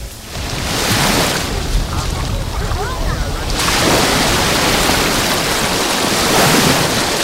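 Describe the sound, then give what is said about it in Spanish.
Steady roar of sea waves breaking on the beach of La Charca in Salobreña, broad and loud throughout, with a wash of surf that swells partway through and some wind rumble on the microphone. “Así es como suena hoy el mar en la playa de la Charca.”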